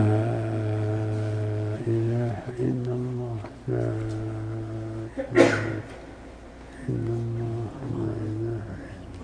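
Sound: a sneeze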